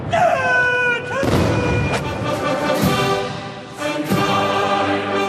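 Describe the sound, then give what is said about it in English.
A ceremonial gun salute of 56 guns, each fired 70 times, at a military parade in Beijing: heavy cannon booms fire one after another at roughly one-second intervals, about four blasts, over a sustained, brassy tonal backdrop like a band playing. “56 guns for 56 ethnic groups, each fired 70 times.”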